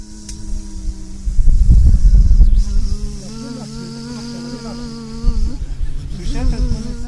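Mosquitoes buzzing, a steady droning whine that wavers in pitch and swells louder and softer over several seconds, with a low rumbling noise underneath.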